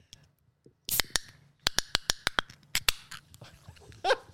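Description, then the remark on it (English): A black tin of vodka, soda and lime being cracked open: a quick series of sharp metallic clicks and snaps from the tab, about a dozen in an uneven rhythm, then a brief hiss at the end. “Fucking crack it.”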